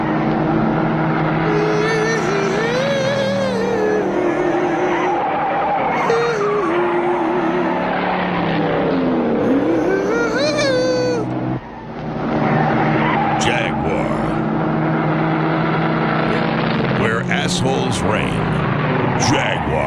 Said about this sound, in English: Boy, look at that car, man. That's some kind of a sweet ride. There's no question about it.